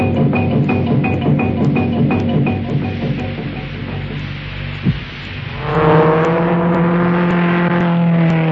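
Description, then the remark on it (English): A car engine idles with a steady low throb, then revs up into a louder, rising drone as the car drives off. No one speaks. “For the man who knows how to handle his car.”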